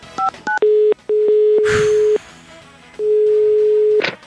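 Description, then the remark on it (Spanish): A quick run of telephone keypad dialing tones as someone calls an institute, then a steady ringback tone sounding in long repeated pulses with pauses, loud, with a brief rustle in between. “Es hora de llamar nuevamente al Instituto Milford.”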